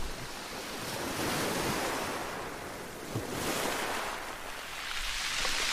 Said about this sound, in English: If your thoughts wander, just gently draw them back to the sound of the ocean. No need to question it. It's perfectly normal for our minds to wander. All we need to do is gently coax them back, like a child, to listen to the sea.